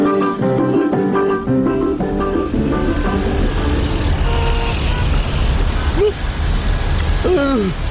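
A loud, rough old car engine rumbles steadily throughout, with bright melodic tones playing over it at first and a few short rising vocal-like whoops near the end.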